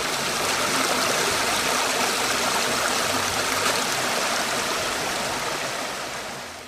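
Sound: flowing river water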